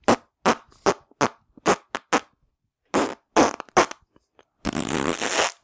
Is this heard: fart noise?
yes